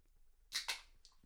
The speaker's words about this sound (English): Oh. Slapping the knee. Slapping the knee.